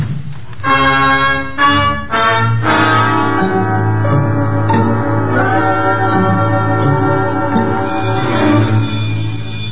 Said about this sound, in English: Must be the recess bell.